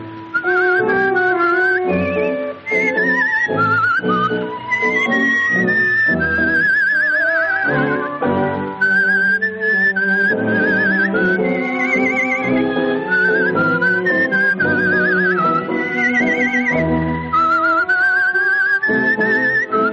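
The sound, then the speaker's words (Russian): High, warbling whistled trills imitate a nightingale in a tango, performed by a woman seated in a decorative cage under the dome of a concert hall, fluttering and repeating over a full orchestral tango accompaniment played by an orchestra below, steady and loud throughout, with no voices. “сидела в этой клетке под куполом концертного зала и изображала трели «Соловья»”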